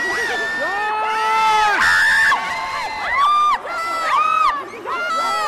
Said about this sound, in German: Wenn 42-jährige Frauen kreischen.